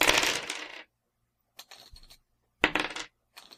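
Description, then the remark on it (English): Small clue tokens from a board game clatter and clink together in several quick bursts, a loud rattle first, then softer handling, then another loud jingle, with no one talking. “Clue tokens.”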